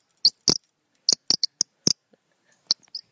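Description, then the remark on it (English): A bird call made of about ten short, sharp, high-pitched chirps and clicks in irregular bursts, separated by brief silences, with no talking. “Oh, that is the bird call. It's a bird call.”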